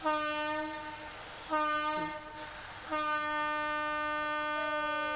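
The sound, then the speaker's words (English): A passing train blares its horn during a kirtan in three long, loud blasts, the last one held steadily to the end, with a brief rumbling dip between them; no one speaks. “Today the trains have joined our kirtan.”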